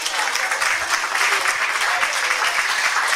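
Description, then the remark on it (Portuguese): A crowd claps steadily for a fado singer, a dense continuous patter of many hands filling the room at a fairly loud level, with no pauses and no voices rising above it. “Então, para a …, mais uma vez, palmas, por favor.”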